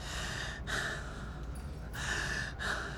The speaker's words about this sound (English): It's hard to be quiet. I'm having trouble breathing. Just take long, deep breaths.